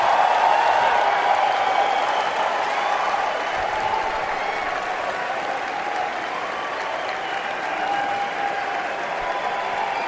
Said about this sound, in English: Listen to how long that applause goes on. Yep. That's not just the fanboys in the upper ring. That's the journalists, too, who can't contain themselves.